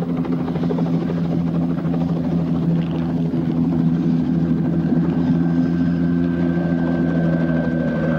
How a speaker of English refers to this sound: The helicopter lands just beyond their hiding place.